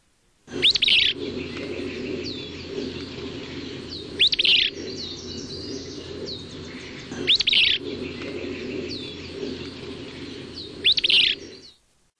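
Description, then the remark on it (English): A female willow flycatcher, recorded along the lower San Pedro River in Arizona, sings four short, buzzy, sneezing phrases, evenly spaced about three seconds apart, over a steady low rumble and faint chirping from other birds. “Female willow flycatchers also sing, and their song may sound identical to the male song.”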